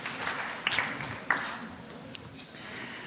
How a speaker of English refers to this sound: Why don't we give them a round of applause? Give them a round of applause.